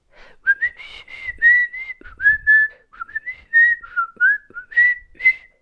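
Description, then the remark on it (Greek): A melodic whistled tune, clear, with sliding pitches and a steady run of short phrases over about six seconds, no one speaking. “Το σφύριγμα αυτό το τραγουδιστό, πώς το κάνει τόσο καλά?”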